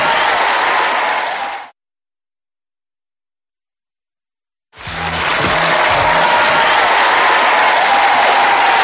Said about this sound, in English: Applause, our audience